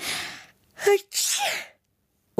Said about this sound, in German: Wir mussten niesen.